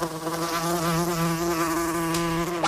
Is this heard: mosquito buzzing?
yes